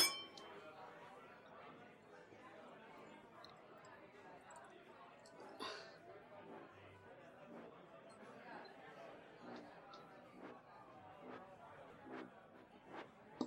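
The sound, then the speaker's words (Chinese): Glasses of alcohol clink in a toast, with several bright chimes scattered through a steady backdrop of crowd chatter and background voices, as at a busy bar or banquet. “哎，你不能喝的话注意点啊，不要勉强自己，毕竟喝醉了比较麻烦。干杯。”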